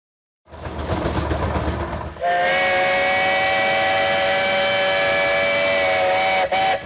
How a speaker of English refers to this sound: This steam whistle isn't on a train. It's actually on a tractor. A tractor in North Central Illinois, and one that belongs to Neil Drummer.